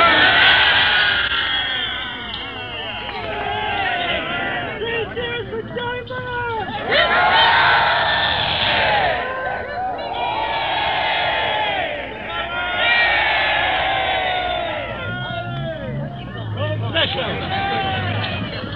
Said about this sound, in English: Now you can hear the cheers and the cries of well done, Mr. Chamberlain, and three cheers for Neville and various things like that.